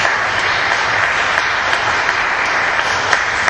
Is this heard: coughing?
no